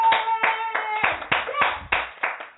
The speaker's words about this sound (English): Come on and clap your hands.